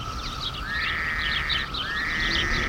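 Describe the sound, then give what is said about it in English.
A dense chorus of frogs croaking steadily, with overlapping raspy calls and a couple of rising trills, filling the whole stretch at moderate loudness with no voices. “It speaks in the sounds of our woodlands, in the songs of birds, the chirp of crickets, the gravel-throated croak of frogs.”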